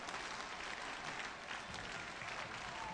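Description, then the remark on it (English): A baseball crowd cheers and applauds steadily behind batter Wold during a 2-2 count, a dense wash of clapping and voices that stays loud and even for a few seconds with no clear break. “Crowds behind Wold.”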